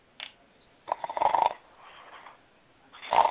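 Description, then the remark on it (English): A person who has fallen asleep snores with several rasping, rumbling breaths in an uneven rhythm: a short one, then a long loud snore, a softer drawn-out exhale, and another loud snore starting. “Who is snoring? Oh, sorry, I fell asleep.”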